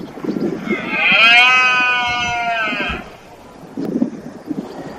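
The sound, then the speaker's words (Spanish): A male deer bellows once during the rut: a loud, drawn-out groaning call of about two seconds that rises and then holds steady, with low rustling noise before and after. “Es muy espectacular los sonidos en los barrancos cuando berrean los ciervos.”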